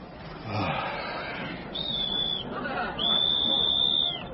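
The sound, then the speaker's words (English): Two shrill, steady police whistle blasts, a short one followed by a longer one, sounding over a background murmur of crowd chatter. “That sounds like a police whistle.”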